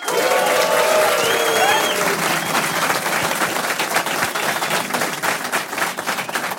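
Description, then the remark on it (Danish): A live theater audience at Play Teater applauds steadily, a dense wash of many hands clapping, with some cheering and whistles rising over it at the start before the clapping carries on alone. “Med mig ved bordet til det her, og måske jeg lige skal forklare jer, vi er på Play Teater, hvor vi har et fantastisk publikum.”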